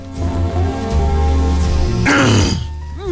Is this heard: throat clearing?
yes